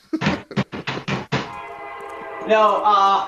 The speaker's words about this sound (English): As the train goes by.